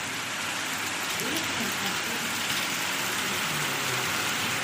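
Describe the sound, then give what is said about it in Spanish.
Heavy rain and hail from strong storms pour down on a street in Carbonero el Mayor, Segovia, Spain, as the streets flood, in a dense, unbroken hiss that stays loud and steady throughout, with faint murmuring voices buried underneath. “En apenas 15 minutos vieron cómo, por culpa de las fuertes lluvias y granizo, sus calles se convertían en auténticos ríos.”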